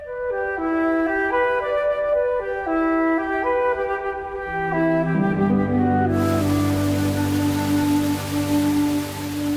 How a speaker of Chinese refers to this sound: 约克郡的天气永远无法让人预测，晚上玛丽被雨声吵醒，狂风也在整个庄园里头四处咆哮着。